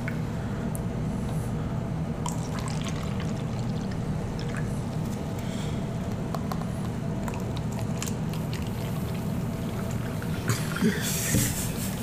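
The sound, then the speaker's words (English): Soda is poured into cups, a steady fizzy stream with faint crackling bubbles running throughout, swelling into a slightly louder splash near the end. No one speaks. “I just thought it was hilarious the way you're pouring it like we're children.”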